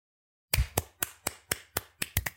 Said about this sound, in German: Also Marathonlauf, Respekt dafür. Oder wollen wir... Entschuldigung, wollen wir klatschen?